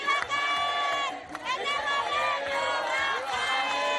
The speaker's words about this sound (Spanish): En un recorrido nocturno hemos constatado cómo estas manifestaciones cierran calles y gritan consignas contra Maduro, incluso en sectores populares que tradicionalmente han sido bastiones del oficialismo.